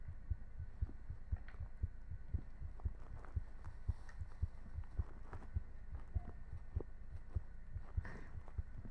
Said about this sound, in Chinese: 是你没开声音吗，大叔？心跳比较明显。